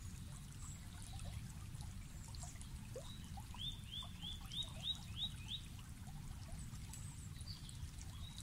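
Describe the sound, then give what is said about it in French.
A small stream of clear, limpid water trickles steadily and gently throughout, while a bird gives a quick series of about seven rising chirps partway through, with faint calls scattered in the background. “Au milieu serpente un petit ruisseau dont l'eau est limpide et transparente.”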